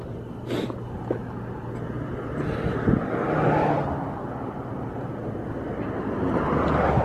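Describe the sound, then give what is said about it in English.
Steady street traffic rumbles throughout at night, with passing cars swelling and fading, one rising around the middle and another building near the end. No one is speaking. “Too much fucking activity tonight. Too many fucking cars, too many fucking people.”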